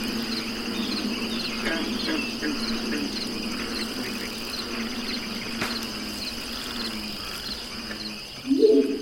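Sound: crickets chirping at night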